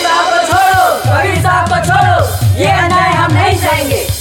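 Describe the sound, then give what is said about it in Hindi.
A crowd of thousands gathered outside the royal court of the King of Kashi roars and shouts continuously, many overlapping voices yelling and bellowing in a loud, agitated din with swelling rises and a few sharp thumps underneath, the crowd hailing Sant Kabir. “ये कैसा शोर है काशी नरेश? हुजूर, दरबार के बाहर हजारों की भीड़ खड़ी है, ऐसा लगता है रियाया उग्र हो उठी है, कहीं बगावत ना करते।”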